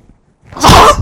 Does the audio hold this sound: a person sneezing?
yes